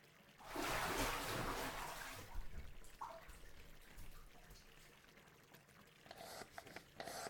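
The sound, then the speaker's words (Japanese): Wet sounds of hot water splashing into hands for about two seconds, then softer squishing and crackling as a handful of body soap is mixed with hot water and worked into foam for two people to wash each other's bodies, with no voices. “こうやって手にいっぱい泡出してお湯を混ぜて泡を育てて。”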